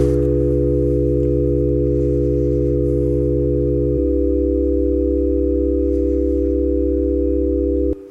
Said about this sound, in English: any complex waveform can be turned into a sum of sine waves. So for example, we can make a chord playing just sine.